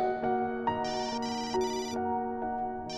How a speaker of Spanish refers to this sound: Se sorprendió cuando su celular sonó insistentemente.